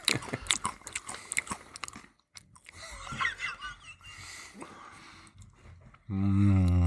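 Crunchy chewing of bacon with sharp crackling bites over the first couple of seconds, then softer mouth sounds, ending in a loud sustained tonal burst.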